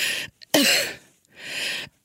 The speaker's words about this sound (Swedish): Oh, nej, jag kan inte andas. Som, där det kliar och jag inte kan andas. Och då låter det så här. Då måste jag hämta luft så här. Kommer en host, för det kliar då också. Och då är det så här.